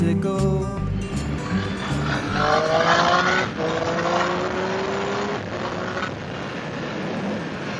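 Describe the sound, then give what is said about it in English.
A loud motorcycle engine revs, its pitch climbing and dropping through gear changes as it accelerates and rides around the south of England in fairly wet conditions, a continuous throaty roar with no talking. “Just want to ride on my motorcycle.”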